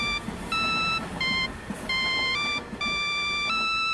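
A loud electronic phone ringtone plays a bright, stepped synth melody of repeating notes, over a low rumbling background hum like a moving train.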